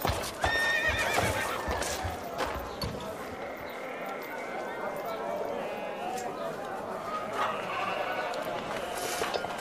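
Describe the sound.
A tired Arabian horse whinnies loudly near the start, then its hooves clip-clop in an uneven rhythm on a hard surface, with indistinct voices and general bustle in the background.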